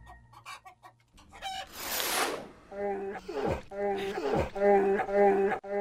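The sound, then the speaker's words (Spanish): A person imitates a chicken clucking, letting out a run of loud, squawky clucks in quick rhythmic bursts, after a brief breathy rush of noise. “Y la gallina le dice, ¿qué querés que haga?”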